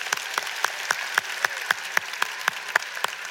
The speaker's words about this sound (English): All right, give them a big clap, everyone.